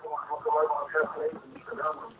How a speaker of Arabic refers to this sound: يعني أرجو أن تخفض صوت التلفاز وتتحدث معي عبر الهاتف يا حبيبي، تحدث معي عبر الهاتف بس.